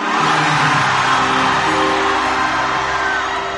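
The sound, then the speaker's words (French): A large crowd roars and shouts at a concert at the Zénith, a loud, sustained wall of cheering and whooping voices that holds steady for a few seconds before easing slightly. “Il faut crier pour qu'Haïti entende.”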